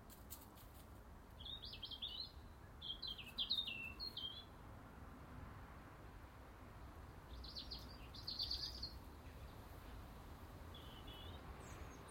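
blackbird singing

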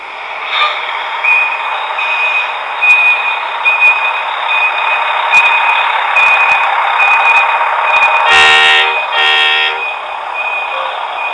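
bus arriving

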